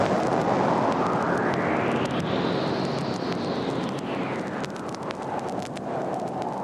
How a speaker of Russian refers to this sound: Вдруг находит на небо тучи черные, встает гроза страшная. Пойдемте, сестрицы, домой. Только прибежали во дворец, как грянул гром.